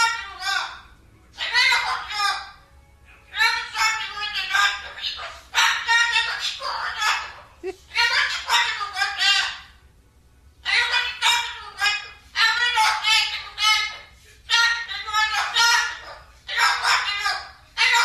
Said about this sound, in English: This is what it sounds like when parrots cry.